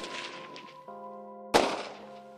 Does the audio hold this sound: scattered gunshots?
yes